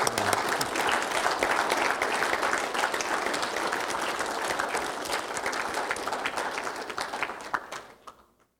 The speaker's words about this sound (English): I'd like everybody else, if you would just stand, please. Out of honor and respect. Can we just give them a clap offering of praise to them?